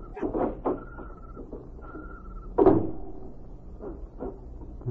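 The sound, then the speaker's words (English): A small side door of a silo is handled and opened in the dark, with several clunks and rattles, a thin squeaky creak, and one louder thud midway through, all without any voices. “Here's the door.”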